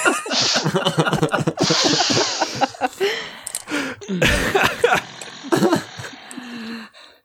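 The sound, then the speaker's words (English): After a person rises from a seated position and walks over towards another person, a big, exaggerated sniff, drawn out and loud, follows a shorter snort of breath. Gruff vocal noises run underneath, then a sharp, sneeze-like burst of air near the end. “I'm going to slowly rise from my seated position and walk at a steady pace over towards him and then just sniff. Just a big...”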